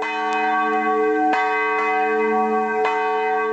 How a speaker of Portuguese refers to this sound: O sino pode ser visto na Capela do Palácio de São Paulo, construído em 1610, funcionar como relógio dos jesuítas, tendo sido destruído por um incêndio em 1670.